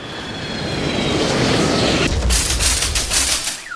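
A rolling shopping cart crashes into a car: a steady roaring rush gives way to a loud burst of sharp, rattling metallic bangs in quick succession, with no voices.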